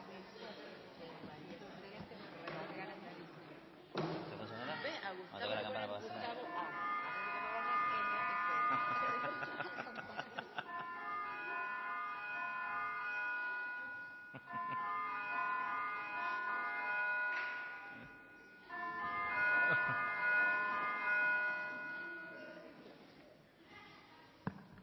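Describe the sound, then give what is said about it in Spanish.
A small hand bell rings over and over, its bright, shimmering tones overlapping and sustaining for long stretches, with a low background murmur underneath; the bell is rung by the members seated at the table. “Esta campana que escuchan la tocamos los miembros que estamos en la mesa, que somos un poco como si fuésemos los directores del colegio, para que nos entiendan, ¿vale?”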